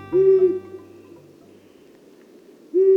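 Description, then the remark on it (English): Two low, steady hoots from a long-eared owl, one at the start and another about two seconds later, each brief and clear over a faint background hiss, with no voices. “The low-pitched hoot of a long-eared owl can carry for half a mile.”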